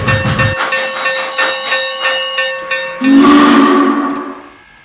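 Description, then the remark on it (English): The steam locomotive of ACL train number 4 on track number one, being steamed up, sounds a sustained whistle tone, with rhythmic chuffs pulsing underneath, then a louder burst of steam hiss and a lower whistle blast takes over before fading out. “Let's get her steamed up.”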